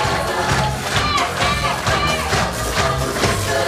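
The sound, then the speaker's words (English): A wrestling arena crowd cheers and shouts continuously, a dense, loud roar of many voices with rising yells and whoops layered throughout, as wrestler Alexi Orimov gets the crowd pumped up before challenging for the IWA Academy Championship. “Ladies and gentlemen, Alexi Orimov, first graduate of the IWA and first Academy champion, is getting the crowd pumped up.”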